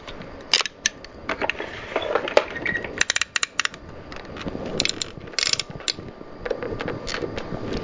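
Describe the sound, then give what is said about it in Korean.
Gears of a wind-up toy elephant whir and click steadily as its ears, trunk and legs turn, with sharp ratcheting ticks and brief mechanical rattles repeating throughout, fairly loud and with no talking. “귀도 돌아가고요. 코도 돌아가고요. 다리도 돌아간대요.”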